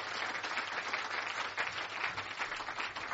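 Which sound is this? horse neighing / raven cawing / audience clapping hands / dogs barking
audience clapping hands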